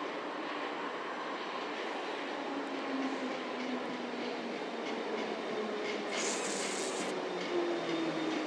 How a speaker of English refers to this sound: Sounds like a District 9 train. See where it's going then.